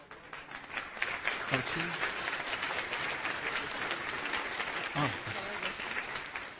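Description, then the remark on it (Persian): Steady applause from a crowd, a dense patter of many hands clapping at even loudness throughout, with faint voices briefly rising through it. “نه من واقعا مرسی تشویقت.”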